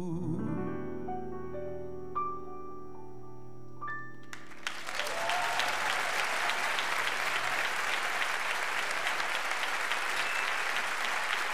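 A sustained tonal chord from a song's final note rings out and fades, then loud, dense audience applause bursts in and continues steadily to the end with no talking.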